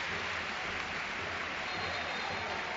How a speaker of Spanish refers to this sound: Mira la ovación de Pelistri también, ¿eh? Es que ha hecho buen partido el chaval.